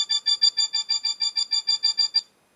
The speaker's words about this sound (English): You stand on the sound you want, so it's alarm 1. So if I press the F1 key, it should play the sound for me.